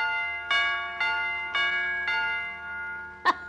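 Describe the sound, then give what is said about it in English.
An electric door chime, its two little hammers driven by an electric coil, strikes the chime pipe: a metallic chime rings four times at an even, unhurried pace, each stroke leaving a bright decaying tone, then ends on a sharper, brief final strike. Clear, with no talking. “When the electric zizzes hits the whatchamadingus coil, the little hammer's supposed to smack the chime pipe.”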